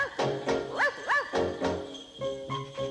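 A dog barks several times in quick, uneven succession, loud, followed by a few sustained bright tones like chimes or bells.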